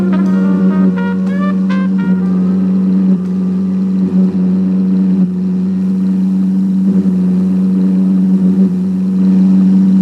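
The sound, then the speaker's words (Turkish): A car engine hums steadily as the vehicle drives, a loud, continuous low drone with no talking, and a few brief high squeaks near the start. “Benim arabayla mı? Yok hayır, bu sefer benimkiyle dostum.”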